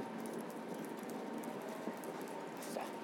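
Trains passing overhead, heard from the Undercroft at St Pancras, make a steady, continuous middle-high droning hum that holds at an even level for the whole stretch, with faint scattered ticks and scuffs but no talking.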